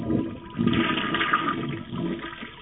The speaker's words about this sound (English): Am I getting crazy with the sound effects today or what? We're going to have to flush that one.